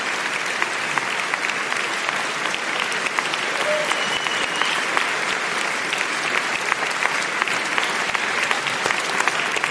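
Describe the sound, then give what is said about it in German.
A crowd claps steadily for about ten seconds at a live reading of Shaun Usher's 'Lists of Note' with Bibiana Beglau, Jasmin Tabatabai and Bela B., a dense, even wash of many hands with no pauses, holding a constant loudness throughout and no clear voices on top. “Klatschen Sie ruhig. Hebt die Stimmung.”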